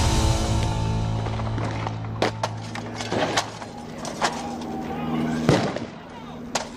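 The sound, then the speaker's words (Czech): Scattered sharp gunshots crack out at irregular intervals over a low, steady mechanical rumble, some louder than others, with muffled voices faintly underneath; gunfire during the April 1993 armed siege, with tanks and tear gas, of a religious group's ranch near Waco, Texas. “Tanky, slzný plyn, střelba a požár, tak skončil 19.”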